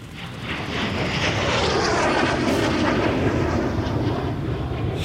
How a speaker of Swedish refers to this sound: Helsika. Precis när flyget dyker ner med, i ett dundrande smatter av kanoner och explosioner som lyckligtvis slår ner precis bakom huset.